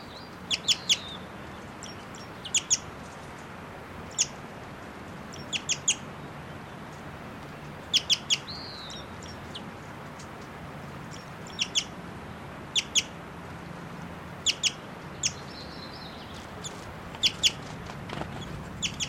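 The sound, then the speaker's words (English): A female bird in flight gives short, sharp chittering bursts at irregular intervals, with a few thin whistled notes mixed in, against a low background hiss and no voices. “And that's her flying and chittering here. That's her giving these whistling notes.”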